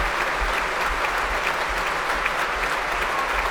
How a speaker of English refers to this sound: I mentioned before how often she played with the BBC Scottish Symphony Orchestra and they really are giving her a great big clap.